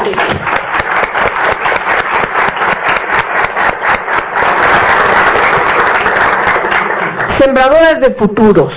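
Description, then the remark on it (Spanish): An audience applauds with dense, sustained clapping that holds steady and loud for about seven seconds. Then a woman's voice starts speaking as the applause fades out. “Y eso requiere otro aplauso.”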